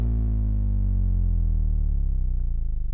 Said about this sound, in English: And it just so happens that it's a very low frequency sine wave. So I'll give it a spin and you can hear that this is just the sound of a hard drive motor amplified.